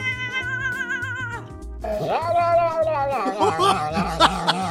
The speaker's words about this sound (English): oh my God, these cat videos. I can't get enough. Check out these hilarious sounds the cats make.